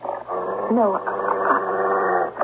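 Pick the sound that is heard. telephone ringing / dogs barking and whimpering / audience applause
dogs barking and whimpering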